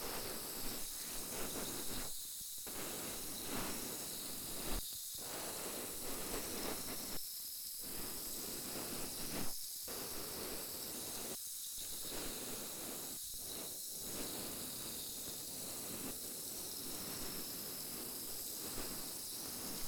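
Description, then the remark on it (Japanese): A steady fizzing and crackling from a carbonated cotton swab used to clean the ear, continuous for the whole stretch with a few brief dips where the sizzle momentarily drops out. No one speaks. “炭酸綿棒。これで細かいの取っていくわよ。”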